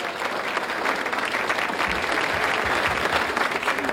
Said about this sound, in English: As the judges tally their votes, let's have a big round of applause for all of our contestants.